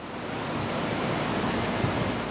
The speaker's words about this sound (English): As I paddle on, the sun comes out. There's a warm wind and the sound of cicadas.